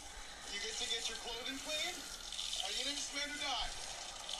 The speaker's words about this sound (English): He showers outside? So no water bill? Outside, washing all my clothes at the same time.